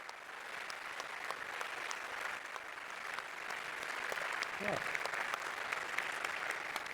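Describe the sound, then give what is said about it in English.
An audience applauds steadily after a talk for about seven seconds, a dense, even patter of many hands clapping at moderate loudness, with a brief voice-like sound rising over it near the end. “So let's have some more applause.”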